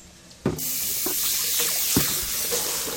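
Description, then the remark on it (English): About 3 cups of water pour steadily into a soup pot of diced vegetables, starting abruptly after a brief quiet moment and continuing as a loud, splashing rush with small gurgling bursts throughout. “I'm going to add about 3 cups of water to this.”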